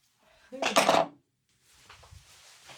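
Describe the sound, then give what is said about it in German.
A die is tossed onto a hard surface and lands on five: a sharp burst of clattering, a brief pause, then a softer, scattered rattle as it tumbles and comes to rest. “Und ich würfle mit dem Würfel.”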